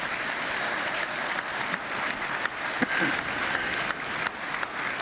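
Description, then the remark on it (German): Steady applause from the audience in a hall fills the whole clip, a dense wash of many hands clapping at an even level with a few sharper claps standing out, and no one speaking. “Es gibt 10 Applaus aus dem Saal.”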